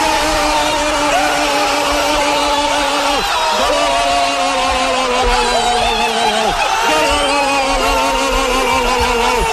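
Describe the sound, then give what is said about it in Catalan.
A huge stadium crowd roars and shouts without pause after Sergi Roberto's goal for Barcelona against PSG in the 6-1 match, a dense, loud wall of voices with long sustained cries that briefly dip and surge again every few seconds. “Els crits de fons que se senten és brutal.”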